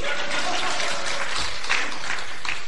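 An audience, prompted to clap after a sung passage, breaks into steady, dense applause, many hands clapping together at a fairly loud, even level that holds for the full few seconds without any talking.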